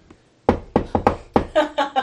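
Firm knocking on the Bronzeport door, a run of about eight sharp raps in loose groups, clear, with nothing else going on around them.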